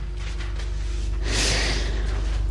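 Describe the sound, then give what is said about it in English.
A startled person jumps up and gasps: a sharp, dramatic gasp rushes in partway through, a loud breathy intake of air that holds for about a second. It is alone, with no talking. “Startled, I jump up and gasp dramatically.”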